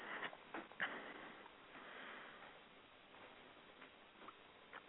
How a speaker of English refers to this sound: the clock is still going. You have 45 seconds.